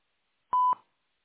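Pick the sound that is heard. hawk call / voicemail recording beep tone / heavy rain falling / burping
voicemail recording beep tone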